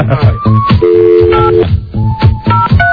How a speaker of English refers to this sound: Okay, don't pick up the phone.